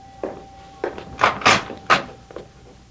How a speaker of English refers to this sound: You want me to open the door, Mom? No, no. Let me.